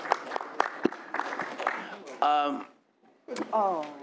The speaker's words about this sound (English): Members and school board members from Compton present. Let's give my elected officials a round of applause. Thank you for being here.